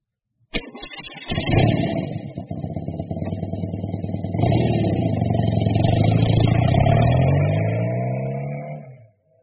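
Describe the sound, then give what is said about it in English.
A motorbike, ridden by Spider Boy, a character in a children's story, kicks into life with a sharp start, chugs roughly, then revs harder as its pitch climbs steadily, loud, before cutting off. “He can ride a motorbike.”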